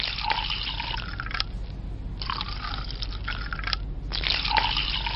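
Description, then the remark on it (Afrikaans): White wine splashes and gurgles into a glass in three bursts with brief pauses between, a bright liquid trickle with no talking. “Ek weet dis laat, maar ek is seker jy sal nie 'n glasie witwyn weier nie.”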